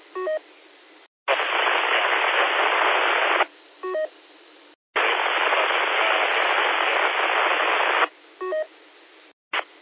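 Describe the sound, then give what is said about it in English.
A weak amateur radio signal: loud bursts of band-limited radio static alternate with quieter gaps where a faint, wavering tonal signal barely pokes through the noise, with abrupt cut-offs between segments. “Station, you're down in the noise a little bit. You can't really make it out.”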